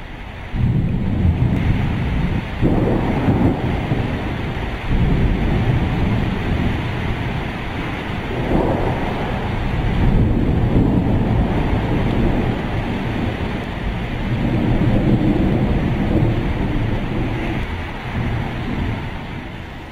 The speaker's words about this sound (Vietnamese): Chúng tôi lạy được 5 dặm rồi cắm liều trên một dốc đá lại thêm một cơn bão khác đang kéo đến.